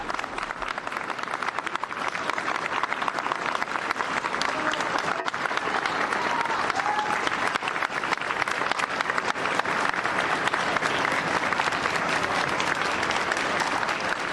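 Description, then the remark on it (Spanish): Sustained applause from a large crowd in Chile, seeing off a team that took part in a disaster response there. It is dense and steady for the whole stretch, with countless overlapping claps blending into a continuous roar and no individual voices standing out. “Aplausos, reconocimientos, satisfacción, alegría y sobre todo gracias, ¿no?”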